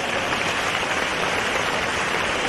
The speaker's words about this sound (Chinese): 让我们再次用掌声感谢